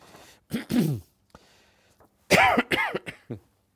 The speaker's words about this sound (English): I'm sorry about all this coughing.